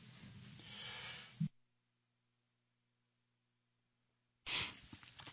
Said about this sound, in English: That's me sneezing. Did you get that over the air?